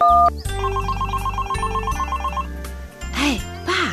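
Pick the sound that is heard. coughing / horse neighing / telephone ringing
telephone ringing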